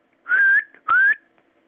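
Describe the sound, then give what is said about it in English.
Two short rising whistles from a person, fairly loud, each sliding upward in pitch with a breathy edge and a brief pause between them. “I think you can only whistle out.”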